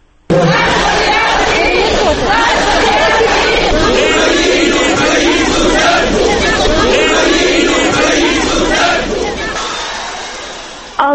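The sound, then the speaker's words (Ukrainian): A large protest crowd in Ukraine, many with flags of the Ukrainian People's Party and Svoboda, shouts and chants slogans against Moscow and the Russian Orthodox Church in a dense, continuous roar of many voices. It stays loud for about eleven seconds, then cuts off abruptly. “Відповідно, різнилися і вигуки.”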